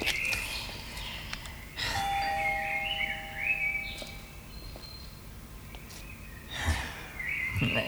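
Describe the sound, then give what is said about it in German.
A doorbell chimes twice with clear, ringing tones, separated by a few seconds of quiet, with faint thumps and rustling and no one speaking. “Klingel nochmal.”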